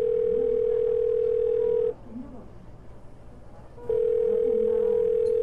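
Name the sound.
phone call ringing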